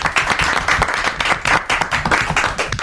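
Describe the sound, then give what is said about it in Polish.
An audience in a radio studio claps steadily for parishes in a contest, dense overlapping hand claps forming a sustained, fairly loud wave of applause with no voices standing out. “Myślę, że im się też wielkie brawa i wielkie podziękowania za udział w konkursie należą.”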